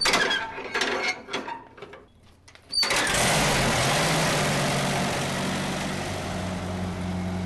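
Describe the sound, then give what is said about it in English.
A 1931 hand-crank tractor engine running: a few clattering bursts, then it suddenly settles into a loud, steady, rumbling drone that continues to the end with no one speaking. “The oldest tractor is from 1931. This one here is the oldest one we've got, and that's a hand crank”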